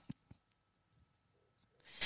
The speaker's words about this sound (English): Can't you find a keyboard that's any quieter?